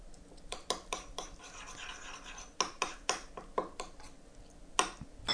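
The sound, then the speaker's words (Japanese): A spoon mixes 100 g of minced chicken with a tablespoon of kabayaki sauce in a bowl, giving repeated soft scraping and squelching strokes with sharper clicks of the spoon against the bowl, in an uneven rhythm with no talking. “鶏ひき肉とこのかば焼きのタレをスプーンで混ぜていきます。”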